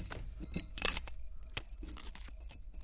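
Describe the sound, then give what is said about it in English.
Someone opening a bottle of sparkling wine: a loud ripping and crinkling of foil, followed by a few short, sharp rustles and clicks, with no talking. “Okay, let's open it up.”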